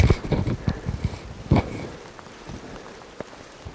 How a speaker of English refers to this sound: It's raining quite strongly here.